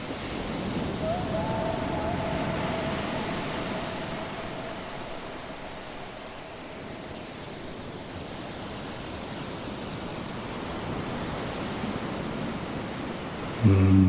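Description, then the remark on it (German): A steady, broad wash of ocean surf rolls on without pause, soft, with a faint tonal hum drifting through near the start and a brief clunk at the very end. “Genieß diese Entspannung, die Weite, das Meer, die Stille in dir.”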